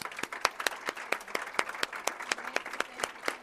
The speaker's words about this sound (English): Let's give our panelists a big round of applause.